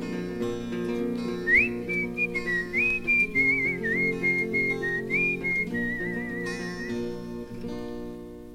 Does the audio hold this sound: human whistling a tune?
yes